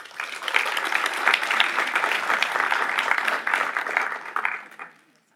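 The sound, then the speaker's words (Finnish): A crowd claps steadily in dense, sustained applause for about five seconds, fairly loud, then it tapers off quickly at the end; the applause welcomes a debut author and an interviewer from the publisher Otava. “Eli oikein raikuvat aplodit”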